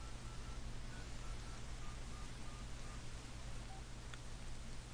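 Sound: telephone touch-tone dialing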